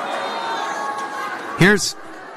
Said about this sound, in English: So they muted his mic at this point. Now you can hear the crowd starting to get riled up behind him.